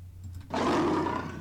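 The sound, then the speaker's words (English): A deep, rumbling lion roar begins abruptly after a quiet moment and continues loud and sustained to the end, coarse and throaty, with no talking. “Lion. Correct?”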